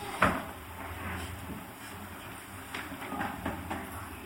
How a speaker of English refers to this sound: Maybe we can close those two doors, everyone can come in, because the traffic will move quite a lot in the corridors now.